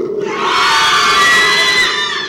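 An audience, including people from Salt in Maine, screams together on cue in one sustained, loud burst, many high voices blending into a roaring wall of sound that swells and then fades after about two seconds.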